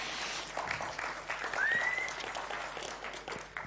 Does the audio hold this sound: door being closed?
no